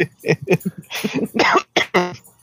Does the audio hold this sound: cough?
yes